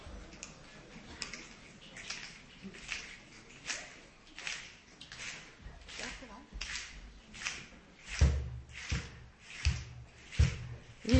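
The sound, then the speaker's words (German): Steady rhythmic finger snapping by a standing group snapping along to a song, many sharp clicks on an even beat, growing louder toward the end with some duller thumps mixed in, over a faint murmur of voices. “Wir fangen mal mit dem Schnippen an, ja?”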